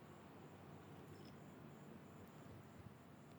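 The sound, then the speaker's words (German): Crickets chirp in a steady, high-pitched trill, layered over a soft, continuous rumble of street traffic on a pleasant evening in Chiang Mai. “Man hört hier ein bisschen die Straßen und irgendwelche Grillen zirpen.”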